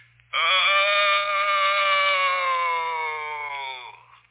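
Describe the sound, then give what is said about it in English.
A single ghostly groan: one long, drawn-out wail of about three and a half seconds, loud and buzzy with a rich tone, its pitch sagging slightly before it fades out. “Did you ever hear a more ghostly groan than that?”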